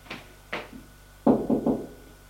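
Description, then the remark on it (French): Knocking on a bedroom door: two lighter raps followed by three louder, heavier knocks in quick succession, with no voices; a woman knocks on her son's bedroom door. “En fin de matinée, elle va frapper à la porte de la chambre de son fils.”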